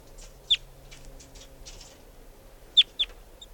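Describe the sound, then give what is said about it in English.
A wild bird perched on top of a cage gives short, sharp, high-pitched chitters: one clear note, a pause, then a quick pair near the end, over faint low background hum and scattered softer chirps. “And chitter by the wild bird.”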